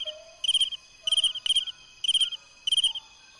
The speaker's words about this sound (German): Und das ist ein Insekt.